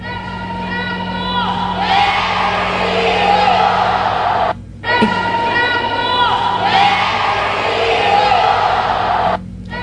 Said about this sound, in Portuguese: Esse aí é quadra, que eles fazem, né? Um grito de guerra, né? Ah, é? Foi na quadra porque estava chovendo, né? É um grito de guerra. Eles dão um grito de guerra aí, será?